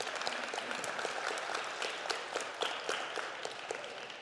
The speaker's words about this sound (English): Is that my mom that started that clap?